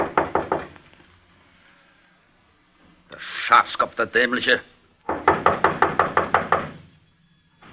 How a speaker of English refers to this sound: He got out of his car and, after looking around very carefully, knocked at the barber's door.